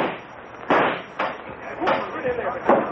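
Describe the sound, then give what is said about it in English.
A sharp gunshot cracks out, knocking the butt off a .44 revolver, followed by a few more abrupt impacts and clattering bursts over a noisy, hissy background with muffled voices. “Too bad about knocking the butt off your .44, Brace.”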